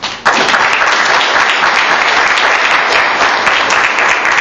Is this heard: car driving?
no